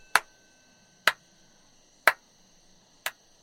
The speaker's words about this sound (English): That's coming from the entrance. Is somebody clapping ominously at us?